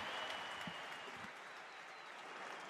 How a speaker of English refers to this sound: A big round of applause for these players. Good luck, both teams.